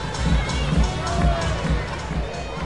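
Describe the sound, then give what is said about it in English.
A large baseball crowd of 6,612 at a Hooks game in Corpus Christi on a Friday night cheers and murmurs in a steady, loud wash of noise that swells slightly at moments but never drops away, filling the whole stretch without a clear break. “this wonderful crowd on this Friday night getting behind their hooks.”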